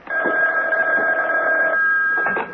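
A telephone rings with a steady electronic trill that holds for nearly two seconds, pauses briefly, then starts again. The ring is fairly loud and close, with a slightly thin, band-limited tone.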